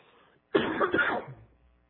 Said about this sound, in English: Have to cough a little bit here.